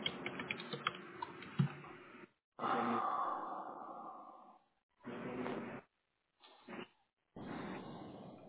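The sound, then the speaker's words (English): Rapid clatter of computer keyboard typing and clicking as a person signs in to a Citrix session and clicks for a password reset, followed by a long breathy exhale and a few shorter bursts of rustling noise separated by brief silences. “I'm clicking for the password, maybe to do a password reset, but it says that it will send me an email, but I don't have access to my email, which I assume...”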